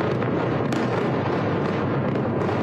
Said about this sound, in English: Huge explosions have been seen and heard near Beirut's airport after a civilian aircraft landed.